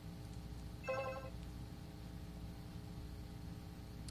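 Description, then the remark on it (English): A short electronic chirp from a device as a card is put into it, a bright harmonic beep lasting under half a second, rises once above a steady low hum and background noise, then the hum continues alone. “But basically, when I put my card in, you heard a little chirp, and I'm going to take it back out.”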